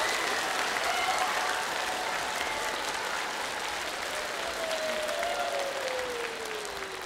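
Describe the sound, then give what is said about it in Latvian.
Loud, sustained applause from a large group of children at a performance, clapping to wake a snoring man: a dense steady clatter of clapping lasting several seconds with a faint tonal whine gliding underneath. “Tikai un vienīgi ar aplausiem. Vai jūs protat aplaudēt? Skaļāk, skaļāk, skaļāk!”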